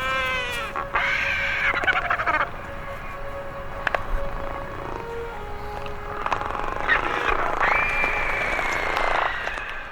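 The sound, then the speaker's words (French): Excited, overlapping bird calls from a pair of albatrosses, Captain Albatros and its mate, greeting each other at their reunion: rapid bursts of braying, clattering cries and drawn-out wails that rise and fall continuously, fairly loud, with no talking. “Ce que vous venez d'entendre, ce sont les cris de joie des retrouvailles de notre Captain Albatros avec sa compagne.”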